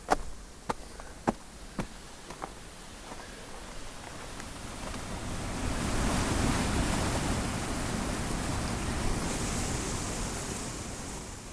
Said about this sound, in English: So just imagine the biggest sugar confection you've ever seen, and just this kind of champagne of water pouring through it, Roaring Brook Falls in all its glory.